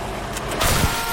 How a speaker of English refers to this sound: There goes that car. That's the unhappy car.